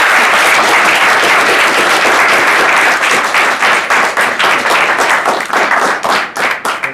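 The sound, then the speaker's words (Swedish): A room full of people gives Samuel a big round of applause, loud and dense at first, then thinning into more distinct individual claps over about seven seconds as the applause gradually tapers off. “Så jag tänker att vi ger Samuel en stor applåd, och så han finns tillgänglig här efteråt.”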